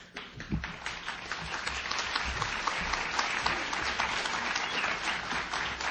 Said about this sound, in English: Those applause are so well-deserved.